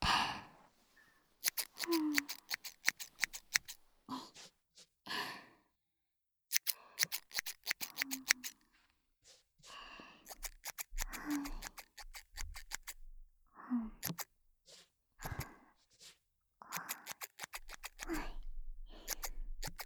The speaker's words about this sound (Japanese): あとはすきばさみと前髪の方も整えていくね。すきばさみって普通のハサミと違ってこのギザギザが面白いよね。